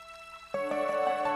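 A Japanese water song: resonant, bell-like tones ring out over gentle dripping water, with a steady hum followed by a few soft plinking drops in a slow, uneven rhythm. No one speaks.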